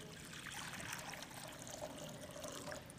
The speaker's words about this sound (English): He filled a basin full of water.